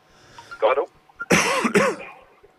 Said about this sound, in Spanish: No te ahogues. Sí, está aquí con la tos.